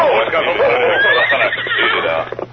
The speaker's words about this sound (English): The three then followed the wagon tracks for some distance along the trail. Finally, they reined in their horses.